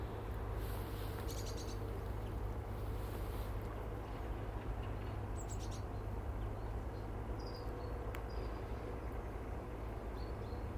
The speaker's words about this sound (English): You know, just watching the activity of the birds in the garden. To them, an everyday task.